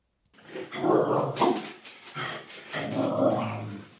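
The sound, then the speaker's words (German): A dog on a leash growls and barks in agitated bursts, fairly loud, with a few sharp yaps breaking through a continuous snarling rumble over about four seconds. “Was geht in dir vor, wenn dein Hund jemanden oder etwas anknurrt oder sogar schreiend in der Leine hängt?”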